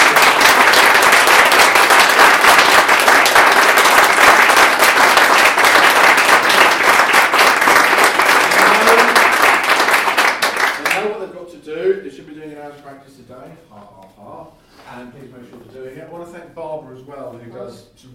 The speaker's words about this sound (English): So can you give them a huge round of applause?